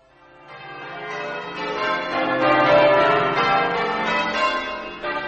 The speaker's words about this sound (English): Ring the bell, by all means.